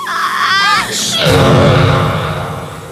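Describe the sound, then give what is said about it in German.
A voiced, cartoonish sneeze from Rocky, a horned creature: a wavering, rising 'ah-ah' intake, then a sudden loud burst that trails into a low, honking, buzzy tail lasting over a second. “Der Nieser weckte sogar Giganto, der in einiger Entfernung ein Nickerchen gemacht hatte.”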